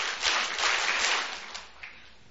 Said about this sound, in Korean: 에이, 이게 맞는다고 확신하면 박수 다섯 번 하면 크게 쳐보세요. 시작.